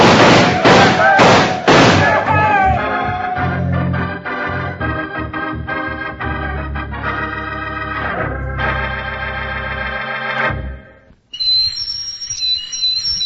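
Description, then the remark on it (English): A loud, sustained whistle in a radio advertisement for a model USS Nautilus submarine sounds in a series of long tones that shift in pitch, following a burst of thumping noise, then a brief pause and a final shrill, high whistle. “That whistle is to remind you that you can own a real operating model of the USS Nautilus, world's first atomic submarine.”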